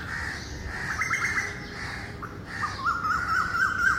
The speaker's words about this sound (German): Wartete geduldig, bis der Verkehrslärm die ständig präsenten Krähentöne zum Beispiel gerade mal nicht übertönte